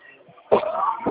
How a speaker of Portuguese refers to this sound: A tosse.